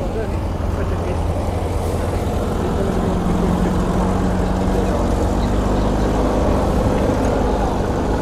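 race car engines

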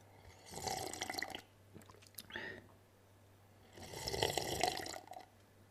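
slurping tea

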